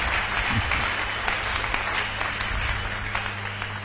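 An audience claps their hands together on request in a dense, steady wash of overlapping claps that holds fairly loud for about four seconds, with a low hum underneath and no voices.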